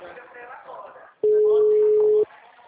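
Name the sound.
telephone busy signal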